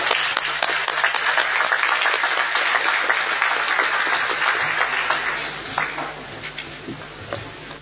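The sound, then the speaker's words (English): A sustained burst of audience applause for the interpreters, dense and steady for several seconds before thinning out into scattered claps near the end. “Can we clap for them, please?”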